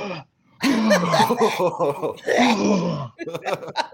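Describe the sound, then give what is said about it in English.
A voice produces a drawn-out, exaggerated cough and throat clearing, loud, with rough groaning bursts after a short pause, then a few quicker hacking sounds at the end. “Every time I had the cough, and I apologize to yours, I was...”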